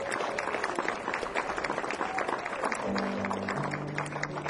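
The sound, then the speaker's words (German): An audience applauds itself for the money it raised for a good cause, clapping steadily in a dense, continuous burst at a fairly even loudness, with a low sustained musical tone rising beneath it toward the end. “Gebt euch mal einen riesen Applaus, das ist unfassbar.”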